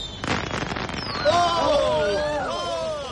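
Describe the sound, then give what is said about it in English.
Fireworks going off at a party: a scatter of crackling pops at first, then several shrill whistling rockets gliding up and down in pitch, steady and moderately loud throughout. “Just for the fireworks, should I catch a fluxion de poitrine?”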